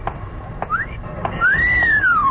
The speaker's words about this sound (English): I'm a married man. I was only whistling for my dog. Well, you can't blame a girl for whistling at a man.